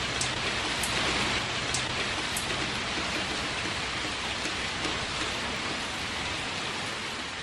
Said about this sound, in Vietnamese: Hôm nay chúng tôi đã trở ra đường, trời mưa tầm tã.